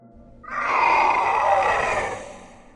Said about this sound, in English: I heard a loud scream echoing off the cave walls yet miles away.